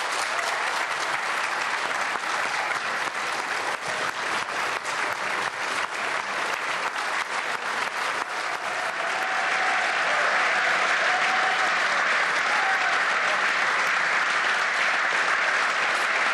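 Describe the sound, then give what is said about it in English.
Sustained applause from the government benches of Dáil Éireann, Ireland's parliament, as members on their feet congratulate the new Taoiseach, Simon Harris, after the vote nominating him. Loud and steady throughout, the clapping grows denser and more continuous in the second half, with faint voices mixed in underneath. “So there you hear the applause from the government benches, the new Taoiseach being congratulated now by his colleagues, shaking hands with Eamon Ryan there a moment ago with Micheál Martin, and all the government benches are on their feet applauding”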